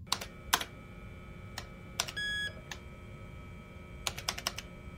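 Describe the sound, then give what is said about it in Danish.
Keys clack on the keyboard of a brand-new Epson AX286 personal computer in short irregular bursts, with a brief electronic beep partway through and a steady low hum underneath, on 11 November 1987. No one speaks. “sidder ved sin spritnye Epson AX286 personlige computer.”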